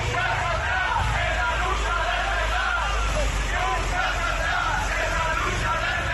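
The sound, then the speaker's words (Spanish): A crowd of about 500 metalworkers on a protest march through the streets of Cádiz chants and shouts together, a loud, continuous roar of many voices with no pauses, amid outdoor traffic rumble. “Este era el grito de los manifestantes.”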